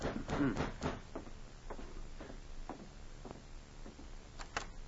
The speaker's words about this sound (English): He sat alone in his police cabin reading a book. It was very late, and the corporal had put his book aside and started to bed when there was a knock at his door.